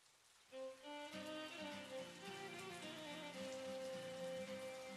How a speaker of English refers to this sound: He lit a cigarette and stared at the window. He noticed outside it was raining again.